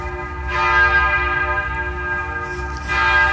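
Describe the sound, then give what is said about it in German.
A church prayer bell rings for the first time, steadily with a sustained, resonant tone full of overtones, struck twice about two and a half seconds apart, loud with no voices. “Die Betglocke läutet zum ersten Mal.”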